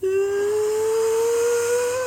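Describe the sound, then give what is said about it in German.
A voice imitates a Boeing 777's jet engines spooling up from idle to takeoff thrust: one sustained, whining tone that slowly climbs in pitch for about two seconds, steady in loudness, with a breathy hiss riding above it. “Vor allem, die hat ein hervorragendes Geräusch, wenn die Triebwerke von Leerlauf auf Take-off-Schub, also auf Startschub, das macht so ein.”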